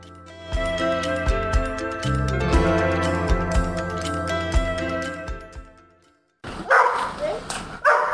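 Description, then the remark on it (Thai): A fading stretch of instrumental music gives way, after a brief pause, to a quick series of loud barks from Elvis, a six-year-old Labrador mobility assistance dog, several sharp woofs in rapid succession. “นั่นคือเสียงของเอลวิสนะคะสุนัขพันธุ์ลาบราดอร์อายุ6ขวบเป็นสุนัขช่วยเหลือผู้พิการด้านการเคลื่อนไหวค่ะ”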